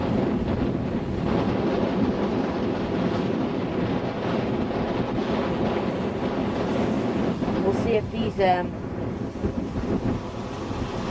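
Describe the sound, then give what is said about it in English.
Loud, continuous roar of storm wind buffeting the microphone over heavy storm surf crashing on a beach, with a brief whistling gust partway through and no pauses in the rough, churning noise. “The waves are really, really strong.”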